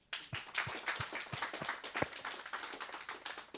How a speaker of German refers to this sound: Und da wir jetzt die 100. Celebration, hast du gesagt, feiern, können wir da mal einen riesigen Applaus geben.